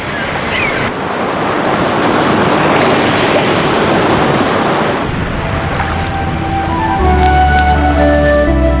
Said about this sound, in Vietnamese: Nghĩ tới đây, nó vừa kiêu ngạo vừa cảm thấy chán ngán, tựa lưng vào vách đá, nghe tiếng sóng vỗ rì rào mà ngủ thiếp đi.